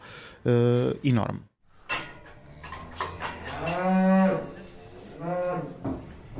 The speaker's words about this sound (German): Wie jeden Morgen versorgt er seine Rinder im Stall. 23 Kühe und 14 Kälber. Füttern, Stall putzen, dann raus auf die grüne Weide.